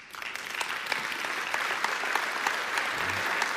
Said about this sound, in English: Now, you shouldn't applaud at that because that was kind of cheesy